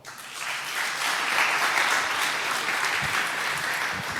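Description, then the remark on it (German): A crowd applauds the NOC (network operations team) steadily for about four seconds, a dense wash of many hands clapping at even loudness with no voices over it. “Applaus für das Nock.”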